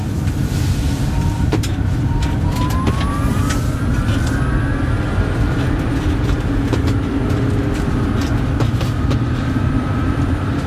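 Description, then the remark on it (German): Inside a large moving electric vehicle driving at about 40: a steady low road rumble fills the cabin while a thin motor whine climbs in pitch as it accelerates, with occasional faint clicks and no talking. “Genau, aber es ist halt schön, wenn du das Ansprechverhalten eines Elektrofahrzeugs hast.”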